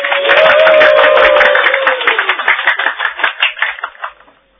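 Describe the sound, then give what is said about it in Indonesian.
Loud, dense applause from a crowd greeting the Ramapati's welcoming speech in Majapahit, a steady roar of many hands clapping that gradually thins into scattered individual claps before fading out. No voices are heard. “Tepuk tangan riuh membahana tak henti-hentinya menyambut kata-kata sambutan Sang Ramapati.”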